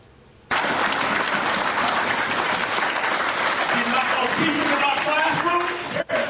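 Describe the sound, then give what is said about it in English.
A large audience of white Republicans bursts into loud, sustained applause that starts abruptly and keeps up as a dense roar of clapping, with some voices shouting and cheering within it. “Woo-wee, listen to them white Republicans clap.”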